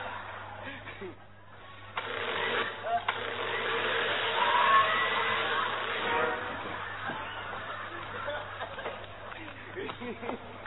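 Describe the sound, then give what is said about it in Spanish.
An electric drill whirs steadily for about four seconds to make a hole, a gritty buzzing whine that swells and then fades, with brief voice-like sounds before and after. “¡Taladro, para ser bujero!”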